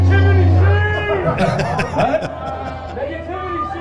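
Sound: crowd cheering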